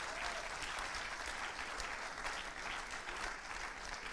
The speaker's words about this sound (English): We want to celebrate you. We want to applaud you.